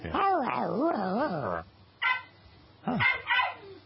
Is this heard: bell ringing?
no